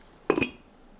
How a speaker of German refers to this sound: Ich bedecke den Topf mit dem Deckel.